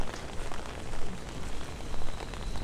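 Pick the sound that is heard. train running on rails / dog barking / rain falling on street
rain falling on street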